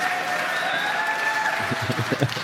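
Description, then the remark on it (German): Audience applause, a dense wash of clapping that swells toward the end with sharper, more distinct claps, steady and moderately loud with no voices over it. “Ich finde, es reicht, wenn Sie jedes zweite Mal klatschen.”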